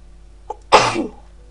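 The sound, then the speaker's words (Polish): A single loud sneeze: a brief inhaled catch followed by a sharp, breathy burst that trails off within half a second, with no talking. “Będę kichać.”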